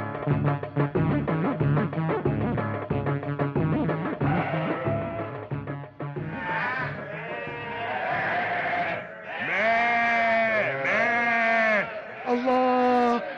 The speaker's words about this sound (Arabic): خرفان خرفان وحشتوني.